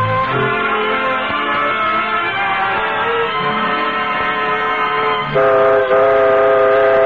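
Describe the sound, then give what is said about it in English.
A train rumbles steadily along the rails, its horn blaring in sustained, chord-like tones that swell louder near the end. No voices are heard. “So, this first peacetime Christmas Eve, the Cavalcade of America takes you on an imaginary train ride, swooping all over the country, seeking out the names of places which stand for home in such a special way tonight.”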